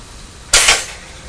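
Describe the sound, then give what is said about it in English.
A toaster pops up toast with a sudden sharp metallic clack and a quick second snap right behind it, then a brief rattling fade against a quiet background hiss. “Pop! Pop, is that the toast ready?”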